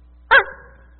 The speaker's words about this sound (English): woof, woof, woof, woof. This big old pit bull comes out from nowhere.